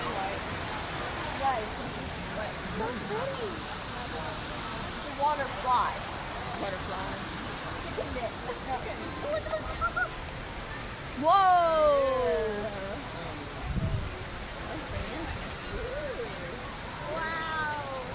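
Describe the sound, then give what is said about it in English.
A steady, rushing hiss of fountain water spraying upward in different colors runs throughout, with excited voices, including a high child's voice, talking and exclaiming over it. “Not a water down, a water up. Look at it, look at it, look at it. It's a water fly.”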